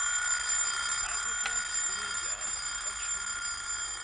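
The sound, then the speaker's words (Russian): A steady, continuous ringing tone holds at an even loudness for about four seconds, bright and shrill, as an alarm clock goes off without pause while it is picked up. “Берет будильник.”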